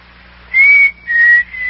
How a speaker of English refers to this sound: Hey, what was that? What was what? Did you hear a whistle? Sounded like a signal. Yeah, there. You hear it?